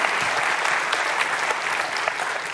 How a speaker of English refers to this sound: And it's worth another round of applause.